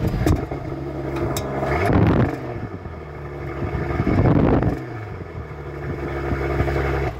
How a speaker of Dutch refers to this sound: Wat mij opvalt is het bescheiden geluid, wederom, voor zo'n grote auto. Tegenwoordig in de neutrale stand hoor je hem bijna niet meer.